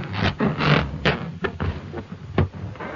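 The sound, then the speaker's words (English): Fingers rub across a balloon in a series of squeaky, rasping strokes, several uneven bursts with short pauses between them and no talking, made as part of a sound effect. “The sound of fingers being rubbed on a balloon.”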